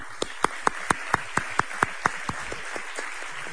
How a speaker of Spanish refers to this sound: Así que un abrazo muy fuerte, Paco, y un aplauso para él. Paco Onuba.